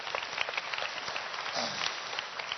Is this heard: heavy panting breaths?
no